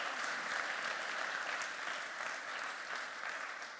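A round of applause from a group, steady dense clapping that holds at an even loudness for several seconds without pause or talking.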